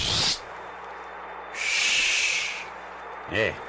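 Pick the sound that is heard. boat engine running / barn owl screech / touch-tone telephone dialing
barn owl screech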